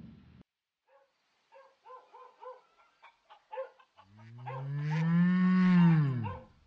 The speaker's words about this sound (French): Je m'émeus, pas qu'un peu, de ces meux. Ça me touche, je m'attache à la vache.